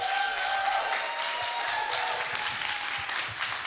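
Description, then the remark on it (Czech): An audience applauds steadily to thank guests for sharing their stories, a dense wash of many hands clapping at an even, sustained loudness throughout, with a faint tonal hum running beneath it and no speech. “Zasloužíte si nejenom velký potlesk, ale i velký dík a velký obětí, takže pojďme se postavit.”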